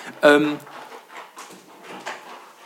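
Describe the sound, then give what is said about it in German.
A dog lets out a short, squeaky groan as it stretches, one brief whiny vocal near the start, followed by quiet background murmuring. “Unser Hund streckt sich gerade.”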